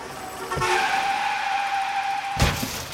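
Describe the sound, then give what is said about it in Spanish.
A car's tires screech in a long, high-pitched skid that ends abruptly in a loud crash. A short thud comes just before the squeal starts. “¡Ah, qué tirada le di a ese carro!”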